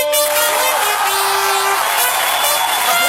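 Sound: crowd applause and cheering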